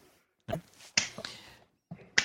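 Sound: slapping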